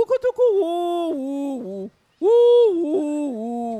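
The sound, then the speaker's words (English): A voice imitates a pigeon's cooing call: a quick stuttering start, then sustained, wavering low hoots in two long phrases with a brief pause between, fairly loud. “He said, "Wukutuku, woo, woo, woo, woo, woo, woo."”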